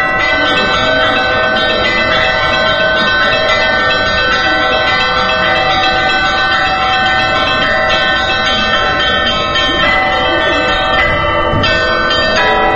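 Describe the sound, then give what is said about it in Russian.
Church bells rung by a bell-ringer of a society of church bell-ringers, demonstrating his art on the belfry of the tiny Church of St. Job of Pochaev. Several bells ring together in a loud, dense, shimmering clangor that never pauses, with no voices present. “Один из руководителей этого общества, Константин Мишуровский, демонстрирует свое искусство на звоннице крошечной церкви Иова Почаевского.”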